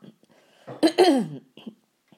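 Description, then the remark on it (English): A single forceful throat clearing, a short rough burst with a gravelly, voiced tail, then a few faint breathy sounds in otherwise quiet surroundings. “Every time I clear my throat, it echoes in the clock.”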